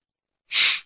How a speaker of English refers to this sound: Forgive my sniffing, I've got a horrible cold.